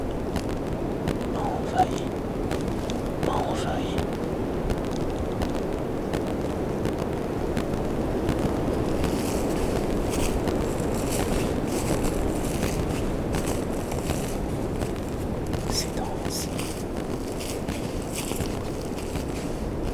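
Wind rushes steadily through dense trees, a continuous low roar with brief bursts of leafy rustling rising over it, filling the whole stretch at a fairly constant level.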